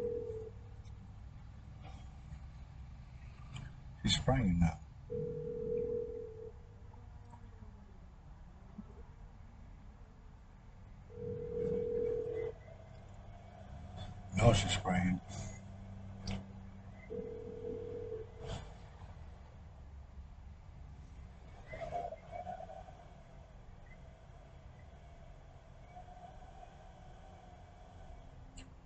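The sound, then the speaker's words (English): A steady ringback tone repeats about every six seconds over a low rumbling background, with a few short bursts of noise and someone speaking briefly, as a phone call goes unanswered. “She's not even gonna answer the phone.”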